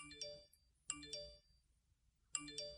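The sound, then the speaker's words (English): A bright electronic phone notification chime sounds three times in quick succession, each a short cluster of clear tonal pings with ringing overtones, separated by brief silences. “That's just that's what my phone sounds like 24/7.”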